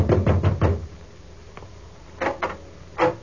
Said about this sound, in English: so I took a fast distance to the home of the late George Grant. I knocked at the door.